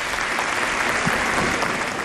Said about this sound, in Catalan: Així tenim un gran públic aquí. Comença amb aplaudiments. Exactament, no? Un gran públic aquí que ens ha aplaudit donant-nos les gràcies per això.